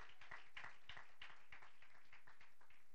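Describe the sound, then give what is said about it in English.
An audience claps their hands together as praise to the Lord in a steady, crowded patter of overlapping claps that continues throughout, fairly soft in level, with no voices standing out. “Somebody go ahead and give the Lord a hand clap of praise.”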